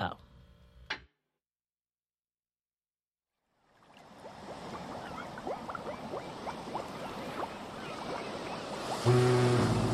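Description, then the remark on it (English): Waves and surf of the Atlantic Ocean fade in after a brief silence, becoming a steady, rushing wash of water that continues to the end, where a voice briefly comes in over it. “I'm coming to you live from the Atlantic Ocean.”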